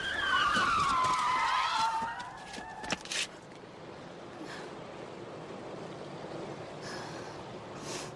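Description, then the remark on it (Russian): A car brakes hard, its tires letting out a loud, falling screech for about two seconds before a short thud. Afterwards only a quiet, steady rumble of the surroundings remains. “Тормози!”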